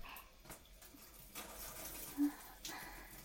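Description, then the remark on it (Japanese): A shower in a bathroom is turned on: a soft, steady hiss of water spraying, fairly quiet and continuous, swelling slightly a couple of times as the flow shifts, with no voices. “今、シャワーを出しますので。”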